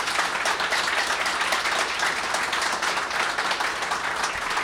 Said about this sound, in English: Thank you very much. Let's have a round of applause for our guests.